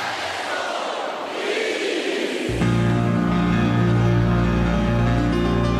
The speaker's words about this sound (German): Und jetzt ruft das Publikum zum letzten Mal heute Abend dem Dirigenten zu.